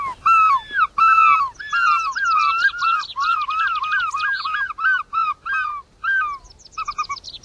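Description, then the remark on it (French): A person imitates a herring gull's call, the cry gulls make when they see the sea: a loud, rapid run of laughing yelps and squeals that breaks into shorter bursts toward the end, with no talking. “Et puis un soir, j'ai eu l'idée de pousser le même cri qu'ils poussent quand eux voient la mer.”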